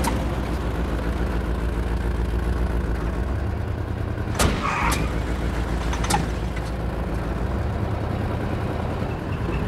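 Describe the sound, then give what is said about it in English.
A car engine rumbles steadily, broken by a couple of sharp clicks or thumps midway as the car comes to a halt in front of a white wooden house, then keeps idling. No one speaks. “stops the car in front of a white wooden house.”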